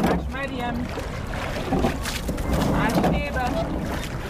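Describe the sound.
A motorboat passes on the river, its steady engine rumble and wash filling the scene. Wind and water noise run throughout, and voices talk briefly over it.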